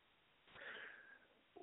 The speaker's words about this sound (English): I'm sorry, clear my throat.